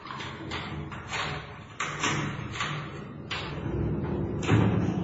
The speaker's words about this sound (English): Wait a minute. This is a prison cell. No, it's a bloody dungeon. Arthur was pushed forward and the door was slid to and locked.